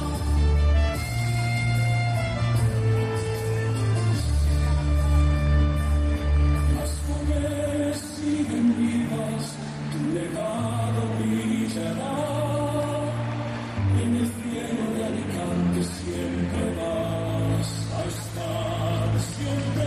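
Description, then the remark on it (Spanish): A song about pyrotechnician Pedro Luis Sirveni plays loudly and continuously over outdoor public speakers across the Plaza de los Luceros. It has a deep sustained bass line, layered instruments and a melodic vocal line, with no talking over it. “Lo que están escuchando es una canción, es un tema dirigido con la letra que habla precisamente del pirotécnico Pedro Luis Sirveni, que está sonando ahora mismo para toda la Plaza de los Luceros.”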